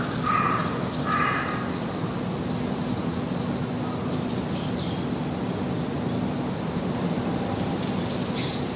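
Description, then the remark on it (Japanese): Crickets chirp steadily in repeated high, ringing pulses, bell crickets and field crickets overlapping in a dense night chorus, over a low continuous background hum with no voices. “スズムシとねコオロギがだいぶ増えましたね。”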